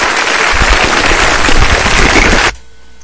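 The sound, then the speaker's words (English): Applause for Beyoncé and her twins: a loud, dense burst of clapping with many crackling hand claps blending into a steady wash, holding for about two and a half seconds before cutting off abruptly to near silence. “Clap it up for Beyonce and the twins.”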